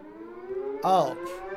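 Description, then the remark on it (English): A local civil defense siren for emergency war and disaster alarms, sounded daily in Taiwan, drones steadily, its sustained harmonic wail swelling briefly louder before settling back to a constant tone, heard alone without talking. “Yeah, that's the local daily siren. It's emergency war disaster alarms.”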